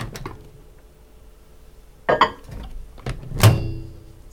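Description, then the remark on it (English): A microwave oven door clunks and latches with a few sharp knocks, followed by a short tone and a low, steady hum running underneath, as the microwave is used to make chocolates. “We can use the microwave.”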